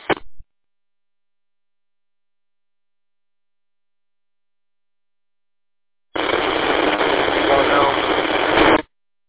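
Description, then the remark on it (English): Radio static over the Detroit repeater: a short crackling burst, a long silence, then about three seconds of loud, steady, band-limited hiss that cuts off abruptly, with only faint traces of a garbled voice. “Nothing but static. Can barely make out what you're saying.”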